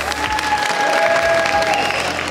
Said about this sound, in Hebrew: אתה יכול לחזור למקום, תעשו לו מלא מלא מחיאות כפיים.